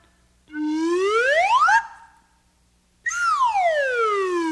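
A magic whistle slides steadily upward in pitch, cuts off, and after a short silence glides back down in one long, smooth descending sweep. Bright and fairly loud, with no voices.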